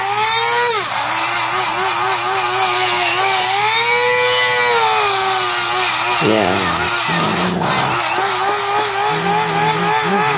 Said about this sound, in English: And she's drilling.